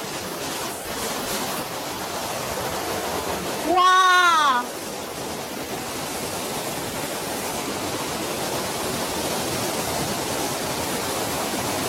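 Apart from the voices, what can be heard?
waterfall rushing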